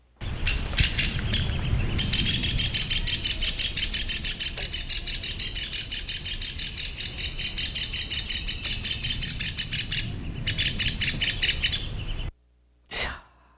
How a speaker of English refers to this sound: We are going to listen to the alarm call of the downy woodpecker, which is relatively common. So keep an ear up.